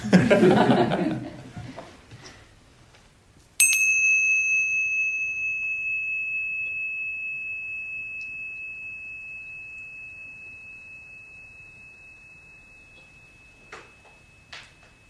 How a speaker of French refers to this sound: Mais donc, essayez d'entendre la cloche. Ça prend. Et vous allez voir que la conscience du son de la cloche naît avec le son de la cloche et meurt avec le son de la cloche.